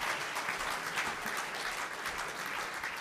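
A crowd claps steadily in a dense, continuous wash of applause, many hands overlapping at an even loudness for a few seconds with no voices standing out.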